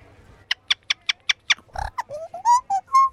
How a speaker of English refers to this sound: You can't actually see the whistle. You put it in the roof of your mouth. A lot of the listeners will know about that one. Wow. So it sits on the roof of your mouth, you can't see it, and you just go shh. And ch-ch-ch-ch.